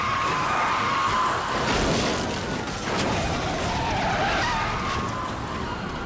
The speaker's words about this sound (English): The stolen car skids and flips, tumbling over and over again. In the middle of the wreckage, the driver is ejected from the car.